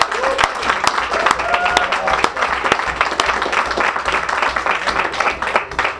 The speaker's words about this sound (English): The committee won all the prizes. They already got their round of applause.